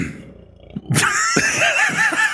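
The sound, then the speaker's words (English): A big, long burp that erupts suddenly and rumbles on for over a second, its pitch wobbling and gurgling throughout, loud and alone with no talking over it. “That was a big, long burp.”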